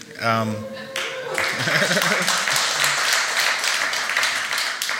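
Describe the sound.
A voice speaks briefly, then an audience breaks into dense, sustained applause that fills the rest of the moment, many hands clapping at once at a steady, fairly loud level, at a gathering before a sermon on the fourth Sunday of Advent.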